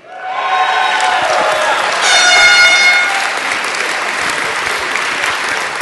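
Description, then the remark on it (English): Loud air horn blasts for the first few seconds, swelling around the middle, over steady applause and crowd noise during an announcement of placings and points; the applause keeps going after the horn stops. “All right, I'm warning the air horn now. Put it away or I'm shoving it somewhere you're not going to like it.”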